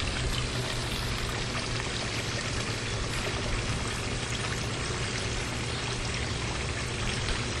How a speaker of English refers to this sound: If I keep going, you guys may be able to hear the water from our pool. The waterfalls are going off. We have the waterfalls. I am walking towards the pool.